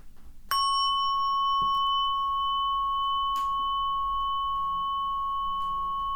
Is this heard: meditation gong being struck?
yes